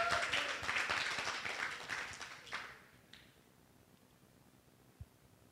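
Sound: audience applause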